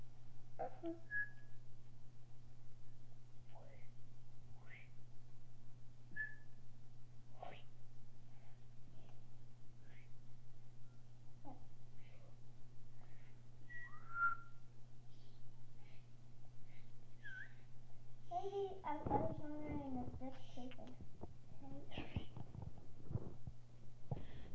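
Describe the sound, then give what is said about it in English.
Several people try to whistle, producing scattered short, thin, breathy tones and a few wavering pitches over a steady low hum, with a busier cluster of attempts near the end. “Everybody's trying to whistle now.”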